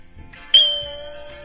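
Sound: page-turn chime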